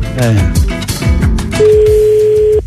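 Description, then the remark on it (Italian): A steady electronic ringing tone of an unanswered phone call sounds for about a second, clear, after a stretch of overlapping voices talking loudly. “No, dobbiamo rispettare tutte le squillate. Avrà ignorato la chiamata, avrà visto un numero sconosciuto.”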